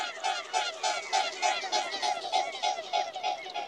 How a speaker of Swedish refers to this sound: En annan som har ljudliga vingslag är knölsvanen. Och man hör verkligen att det här är en tung fågel. Slagen är långsammare och kraftfullare.